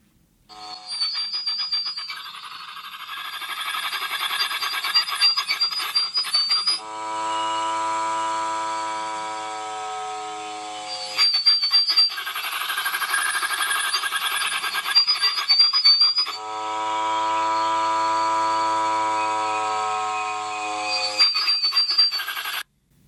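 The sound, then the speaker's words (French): Crackly AM radio reception full of interference, alternating between harsh hissing static with chirping squeals and steady buzzing harmonic tones, loud and continuous with no voices. “Et je commençais à capter ce son dans l'espace avec la radio aussi. Donc, plus avec des interférences.”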